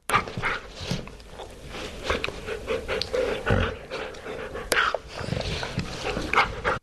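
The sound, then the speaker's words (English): A dog pants in quick, breathy huffs, the excited play-panting sometimes called a dog laugh, keeping an uneven rhythm for several seconds with a few faint whiny tones. “It's very short, but this is, I'm told, this, I haven't heard this yet, but the sound of a dog laughing sounds a bit like panting.”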